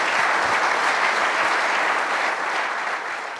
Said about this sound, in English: So, well, thank you, panel. Thank you for that input. Let's give our panel a big round of applause.